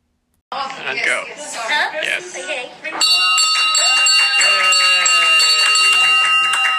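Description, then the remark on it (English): A few seconds of cheering and laughing voices from hospital staff, then a patient rings a bell loudly in a hospital and it keeps sounding, its clear tone ringing on with the staff's cheers still audible underneath. “My husband videoed me as I smiled and rang the bell loudly with cheers from the hospital staff.”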